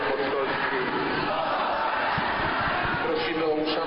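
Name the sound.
church audience applauding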